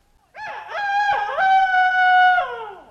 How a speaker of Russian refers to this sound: Мсье Петух, погодите минуточку с вашими кукареканьями.